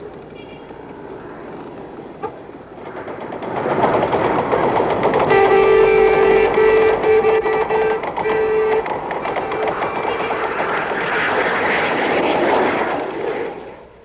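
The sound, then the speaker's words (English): An F-5 fighter bomber jet roars in loud as it pulls out of a dive over the presidential palace in Saigon, South Vietnam, its engine swelling into a sustained whining scream with a sharp tonal edge, then holding steady before starting to fade. “Then he saw the F-5 fighter bomber as it pulled out of the first dive over the presidential palace.”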